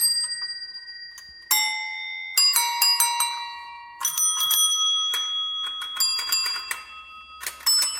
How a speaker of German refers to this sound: Und dann hat es die Glocke, Kinoglocke gegeben. Die tut auch so.